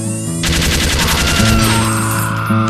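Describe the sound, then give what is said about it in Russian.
A hand-built heavy-calibre mounted machine gun opens up after a brief pause and fires a loud, continuous rapid stream of shots for a couple of seconds, with a steady humming drone underneath. “Это оружие — крупнокалиберная станковая малютка, разработана мной.”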